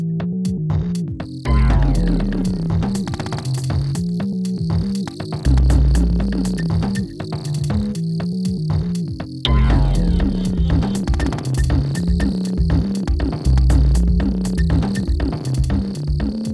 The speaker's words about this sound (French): En lisière du bois, parmi les feuilles mortes, grouillent de petits grillons noirs, les Nemobius.